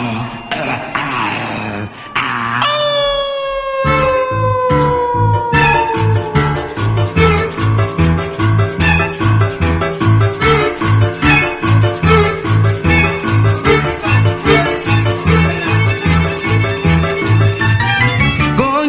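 A cuarteto song kicks off loud, with a long falling howl-like tone and then a fast, steady bouncing beat under bright melodic lines that runs to the end.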